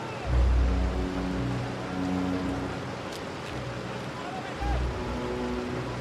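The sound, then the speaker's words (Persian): A car engine runs with a steady low rumble and droning hum, briefly swelling louder near the start and again toward the end as the employer's car pulls in at a mine. “امیر به صاحب کارش که با ماشین میاد نگاه میکنه.”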